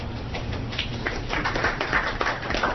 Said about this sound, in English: Polite golf clap. Yay!